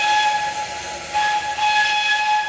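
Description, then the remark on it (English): A historic rail car train, the Little Prince, sounds a steady, multi-toned whistle held for the full two and a half seconds over a hissing, rushing rumble of rail noise, with no voices. “Join us on this historic rail car ride down the Little Prince's journey through time.”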